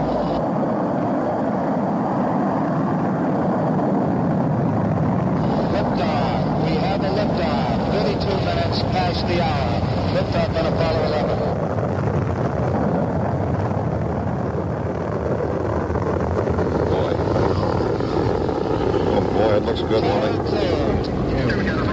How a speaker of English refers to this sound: Sit back and just listen, or remember if you heard it then, as the rockets rumble and mission control counts down.